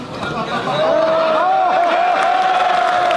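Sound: crowd cheering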